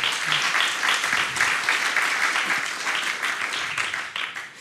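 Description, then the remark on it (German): Sustained audience applause, a dense wash of many hands clapping at a steady loud level for several seconds before tapering off slightly at the end, with no one speaking over it. “Jetzt im Raum gibt es hier viel Applaus dafür.”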